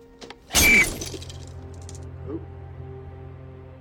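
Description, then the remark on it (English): A man breaks a mirror with his head: the glass shatters in one sudden, loud crash, bright splintering fragments spraying out, then fading into a low sustained drone with a faint clink a moment later. “stares at his reflection in the mirror, and breaks the glass with his head.”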